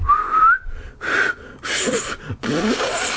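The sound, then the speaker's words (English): A sharp mouth whistle, blown hard with two fingers at the side of the mouth as a signal to a player about to serve in a paddle game, rises in pitch, followed by a few harsh, breathy blasts of forced air. No one talks. “As he held the ball and prepared to serve, I raised 2 fingers to the side of my mouth and blew hard. He lowered the paddle when he heard my loud whistle.”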